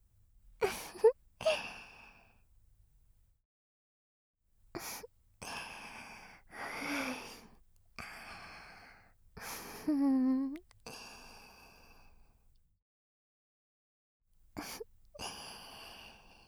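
Heavy, excited breathing comes in uneven bursts of breathy exhales and gasps, with a drawn-out voiced sigh in the middle and short pauses between breaths. No one speaks.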